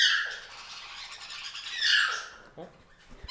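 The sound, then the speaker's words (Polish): A parrot lets out harsh, drawn-out squawks, two loud shrill cries with a brief quieter squeal between, followed by a short murmur of a voice at the end. “Weź ją, spróbuj pocieszyć jakoś, bo mi szkoda tej biednej papugi.”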